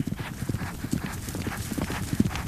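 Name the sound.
horse hooves clip-clopping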